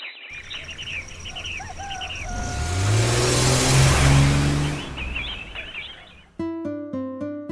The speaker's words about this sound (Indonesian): Ayah telpon teman ayah yang punya mobil box terbuka. Beberapa menit kemudian, datang sebuah mobil box terbuka milik teman ayahnya